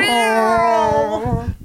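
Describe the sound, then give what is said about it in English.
A single long, drawn-out meow from a cat, loud, holding steady before its pitch dips and fades out at the end. “Get that Scar cat out of here.”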